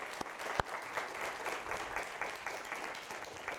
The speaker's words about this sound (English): The TAs, I hope you will actually join me in giving them a round of applause for helping us through this way and through these incredibly interesting and vexed conversations.